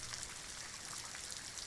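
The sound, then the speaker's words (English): A steady, unbroken hiss of electronic static from a baby monitor, bright and crackly, holding at an even level throughout with no voices. “Static in the baby monitor.”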